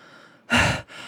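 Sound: out-of-breath panting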